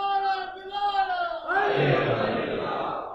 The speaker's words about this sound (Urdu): سب مل کے کہیں الحمدللہ، کوئی الگ نعرہ تھوڑی، ماشاءاللہ دوبارہ لگائیں بھائی.